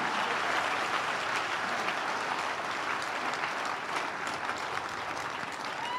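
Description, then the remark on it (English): An audience claps together in a sustained, steady burst of applause that fills the room evenly from start to finish, with no voices standing out. “Clap your hands if you can.”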